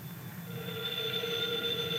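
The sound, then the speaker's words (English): A telephone bell rings in one steady, sustained burst with a bright metallic buzz, beginning softly and holding at an even level to the end, with no voices. “Oh, the telephone.”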